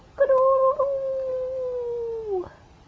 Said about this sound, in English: And who's that? A rooster.